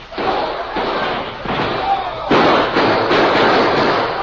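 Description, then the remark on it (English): A quick exchange of gunfire at an outlaw's hideout cabin between the Lone Ranger, Tonto and Theodore Roosevelt and outlaw cowboys: half a dozen loud, booming shots at irregular intervals, each trailing into a rough, noisy wash that fills the gaps between them. “There was a quick exchange of gunfire.”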